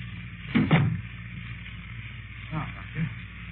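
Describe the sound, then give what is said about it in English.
A door swings shut with a dull thud, followed by two softer knocks or latch clicks a couple of seconds later, against a low steady hum. “So I might as well tell you the rest. Close the door.”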